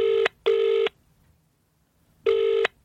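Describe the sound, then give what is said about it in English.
A telephone ringing tone of an outgoing phone call on speakerphone sounds in a double-pulse pattern: two short electronic rings, a pause of silence, then two more, clear and steady with no voices. “Phone. Call Davis. Speakerphone.”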